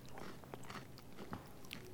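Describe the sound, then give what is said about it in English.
Crisp crunching as someone bites into and chews a fun-sized chocolate crunch bar as a snack, with several sharp crackles spread over a couple of seconds and no talking. “And that crunch is good because it's a crunch bar.”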